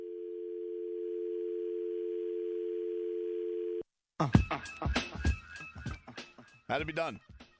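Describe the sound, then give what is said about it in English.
A steady, unbroken telephone line tone hums for about four seconds as a call goes unanswered, then cuts off abruptly; after a brief silence, people start talking loudly and animatedly. “Have the guts to pick up and answer the phone.”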